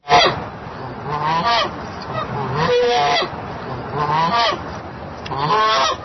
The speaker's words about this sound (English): noticed out on our back deck that Guiccellini is back, this crazed goose. He was on our back deck, and he and his mate, it looks like they're looking for a place to lay an egg. And so we went out to say hi, and Guiccellini had a few words for us.